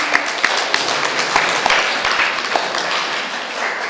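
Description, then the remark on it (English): A crowd claps their hands together when told to, a dense, steady patter of many overlapping claps filling the space for several seconds, fairly loud with no voices standing out. “Clap your hands. A zatleskejte ruce.”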